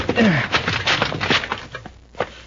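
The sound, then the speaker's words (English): A rickety, locked wooden shed door is kicked open with a loud creaking crack and splintering, followed by a scattered clatter of rattling wood that trails off over a couple of seconds. “It's a rickety-looking door. One kick ought to break it.”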